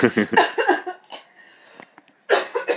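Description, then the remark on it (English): A woman coughs in a rapid burst of harsh hacks, pauses with a faint breath, then lets out another short cluster of coughs. “She's coughing.”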